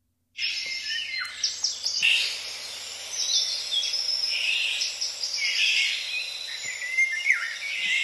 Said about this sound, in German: Das war der Vogel, den ihr hören solltet. Da ist er nochmal. Und das andere sind die Bettelrufe wahrscheinlich von dem Vogel. Und dabei handelt es sich um einen sehr späten Vogel, der besonders bunt ist und einen sehr eindeutigen Gesang hat.